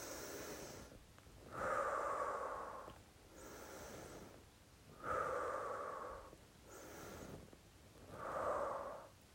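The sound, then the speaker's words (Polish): Three slow, deep breaths taken while sitting cross-legged with a straight back, each a quiet airy inhale followed by a louder, longer whooshing exhale, spaced evenly with no talking. “Siadamy, zaplatamy nóżki na kokardki, prostujemy plecki i co robimy? Oddychamy. Trzy razy.”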